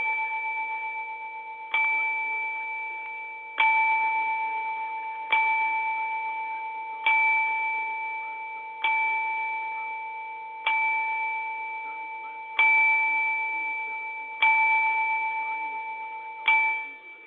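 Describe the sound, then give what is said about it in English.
A bell tolls slowly and steadily, about ten evenly spaced strikes, each ringing out and fading before the next. The tone is clear and resonant with no voices. “Let the bell ring.”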